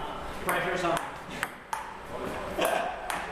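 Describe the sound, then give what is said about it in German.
Table tennis ball clicking back and forth in an irregular rally, several sharp hollow pings from paddle and table, heard in a busy coworking space in New York with murmuring voices in the background. “Und natürlich arbeiten auch sie in einem der coolen Coworking-Spaces, in dem nicht nur gerödelt, sondern auch Tischtennis gespielt wird.”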